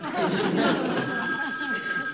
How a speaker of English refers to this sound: Get the phone, would you